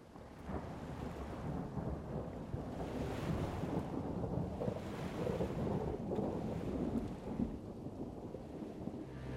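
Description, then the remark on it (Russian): Continuous deep thunder rumbles on and on, blended with a steady rush of hot wind that swells slightly at moments and rattles dry palm leaves; no voices, just a dense, even roar throughout. “В вышине опять бабахнула пушка, и на горячем ветру заколотились сухие листья пальм.”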